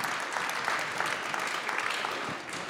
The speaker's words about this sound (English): Henry Kelly. Well done. Round of applause.